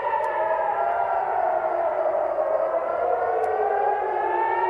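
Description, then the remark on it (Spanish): Air raid sirens wail steadily in the Tel Aviv area of Israel as missiles are fired from Gaza, a loud sustained tone that slowly dips and then rises again in pitch, with layered harmonics and no voices. “De inmediato, los combatientes palestinos lanzaron desde Gaza decenas de misiles contra la zona sur de Israel y también contra la zona de Tel Aviv, donde podían oírse las alarmas antiaéreas.”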